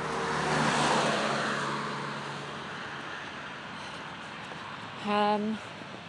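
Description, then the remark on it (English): A car drives by on a narrow road beside a narrow pavement, its engine and tyre noise swelling over the first second and then fading into a steady low rumble, with a short tonal burst near the end. “it's not a good idea when this car's coming and this is a narrow pavement already.”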